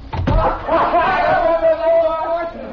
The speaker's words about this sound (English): close the door.